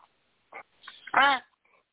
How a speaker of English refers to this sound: My crow call. Oh, good Lord. Crow caller. Does it sound like a crow? No, it sounds like a baby duck. Sounds like a sick baby duck.